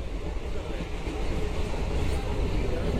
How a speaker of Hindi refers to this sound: हम इस वीडियो में बिहार की एक और ट्रेन का हाल आपको दिखाएंगे। यह ट्रेन पूर्णिया से सहरसा के बीच चलती है, इसे EMU कहते हैं। इस ट्रेन की रिकॉर्डिंग कुछ हफ्ते पहले की गई, जिसमें सर्दी के कपड़े लोगों ने पहन रखे हैं।